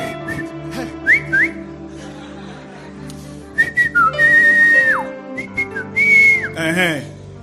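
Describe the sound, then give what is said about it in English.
A person whistles a short call signal: several quick rising chirps, then a long sustained high note that drops off, followed by more bright bursts and a final warbling trill, fairly loud over faint background tones. “My whistling has finished.”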